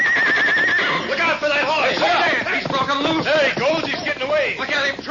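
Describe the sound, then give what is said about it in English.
A horse named Silver whinnies loudly as it breaks loose and runs off, its shrill, wavering neighs rising and falling repeatedly over about five seconds, with agitated voices mixed in beneath. “Look out for that horse! Hey, he's broken loose!”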